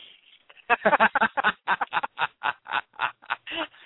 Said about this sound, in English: Gary and Glinda, love it. Yeah, Larry and Glinda Goose. I'm sure that's what the male and female goose are.